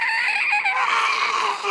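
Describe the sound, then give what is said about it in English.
A voice imitates a piercing victory war cry, the scream players give when they win a shuttlecock game: one loud, shrill, sustained screech lasting under two seconds, wavering in pitch, with no talking over it. “Yes. It's a war cry.”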